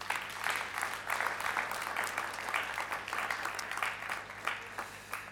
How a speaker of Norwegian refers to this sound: De må få en applaus, synes jeg.